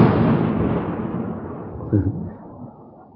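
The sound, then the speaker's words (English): A loud, heavy roll of thunder with rain rumbles deep, then slowly fades over a few seconds, with a brief voice-like murmur near the end. “All of a sudden here, loud, heavy thunder and rain.”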